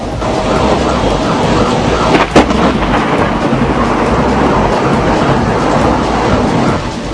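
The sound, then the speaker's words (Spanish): Loud, continuous rolling thunder from a night-time lightning storm, recorded from a home or vehicle, fills the whole stretch: a deep broad rumble with one sharp crack early on, without any talking. “Varias personas registraron estas imágenes desde sus casas o vehículos, donde también se oye el ruido generado por las descargas eléctricas.”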